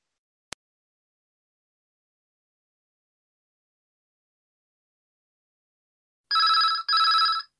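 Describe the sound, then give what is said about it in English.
A single click, then a long silence before a telephone call to King's Restaurant about a job vacancy gives one double ring, two quick loud electronic trills close together, like a phone waiting to be answered. “I'm ringing about the job I understand you have vacant.”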